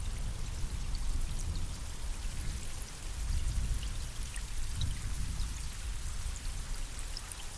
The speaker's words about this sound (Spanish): Miras al cielo y ves unas nubes enormes, oscuras, cargadas de agua. Los sonidos de truenos y relámpagos te ensordecen. Comienza a llover con intensidad.